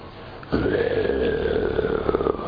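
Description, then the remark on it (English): A lion's roar bursts in after a brief hush: a deep, rough, sustained growl with a droning, harmonic tone that holds loudly for about two seconds, with no talking. “That's a lion roar.”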